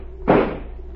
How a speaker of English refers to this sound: Stand away from the door. I'm going to shoot the lock.